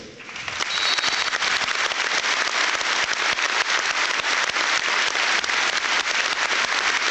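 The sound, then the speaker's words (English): A standing minute's applause on a match evening from a large stadium crowd paying respects to Ian Pearce, who died aged 56: a dense, steady wash of many hands clapping that swells in the first second and then holds loud and even throughout, with no voices standing out. “A number of Ian's family are here this evening, so would you please stand for a minute's applause as we pay our respects to Pearcey.”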